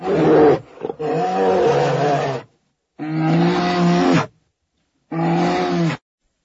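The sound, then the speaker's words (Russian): A wild beast on a slope by the shore lets out three long, deep, trumpeting roars separated by short silences, each one loud and rumbling with a strong low tone and rough, growling texture. “Рев полетел, гудя трубою, раскатным эхом пустоты.”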